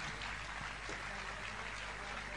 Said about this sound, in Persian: مرسی. همه دوستان فرصت جو و حامی رو تشویق کنیم.